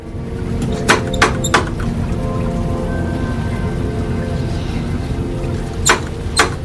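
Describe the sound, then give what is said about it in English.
Three sharp, evenly spaced knocks from the knocker on apartment door 10F, a long pause, then two more raps, all over a steady background of rain-like hiss and low rumble. “She approaches the door marked 10F and reaches for the knocker.”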